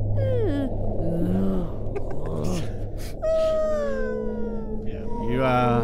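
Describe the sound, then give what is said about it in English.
A whale calls in a series of long, eerie moans and rising whistles that glide up and down in pitch, loud over a steady low rumble. “Just hear that? He's just saying thank you. I'm a whale whisperer.”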